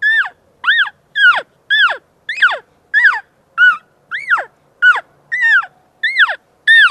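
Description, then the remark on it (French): A handheld turkey call produces a steady series of about a dozen loud, high, arching yelps, evenly spaced with short gaps, imitating the cry of a hen turkey being mated. No one speaks. “Mais à quoi peut ressembler le cri d'une dinde qui se fait accoupler, me demanderez-vous?”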